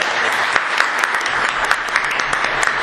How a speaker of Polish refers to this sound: Jak Państwo pamiętają, na poprzedniej sesji żegnaliśmy dyrektora, no a dzisiaj gorącymi oklaskami przywitajmy nową Panią Dyrektor.